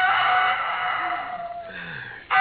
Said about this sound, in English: Oh, I could have slept if it hadn't been for that darn rooster.